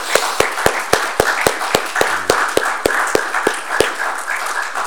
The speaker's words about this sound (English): Man, there's your chance to clap.